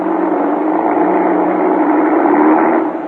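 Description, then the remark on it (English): A car engine runs with a steady, buzzing drone, holding an even loudness for about three seconds before easing slightly at the end. No voices are heard. “Start this car.”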